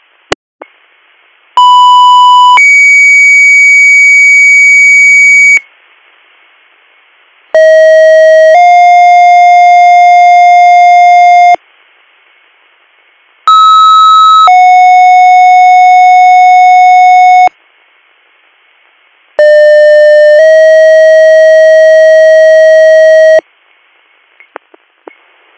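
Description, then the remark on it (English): Four loud electronic emergency dispatch paging alerts in a row, sent ahead of an EMS call in South Creek Township, Bradford County, each a brief steady tone stepping into a longer held tone, separated by short pauses of near silence, with no voices. “Stand by for tones.”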